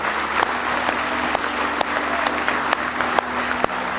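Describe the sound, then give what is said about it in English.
An audience at a morning church service claps their hands in praise to the Lord, a sustained, dense, steady wash of many overlapping claps with a few sharper individual claps standing out, and no talking. “Oh, go ahead and give Him a good hand clap of praise this morning.”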